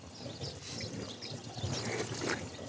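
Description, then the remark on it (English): Water from the Eastern Coachella Valley pours steadily into a cupped hand for tasting, a continuous splashing trickle that carries on for a few seconds with no voices. “I don't know if I'm tasting the water in my hand.”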